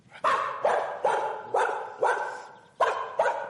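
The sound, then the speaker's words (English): A dog barks sharply and insistently at a stranger, about seven loud barks in quick succession with a short pause before the last two, and no voices. “the first bark was a dog barking at a stranger”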